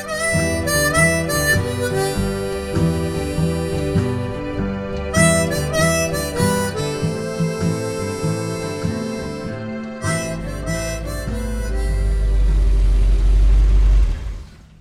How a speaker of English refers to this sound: It's a Ford F-350 custom milk truck from the 1970s, and this thing is a relic.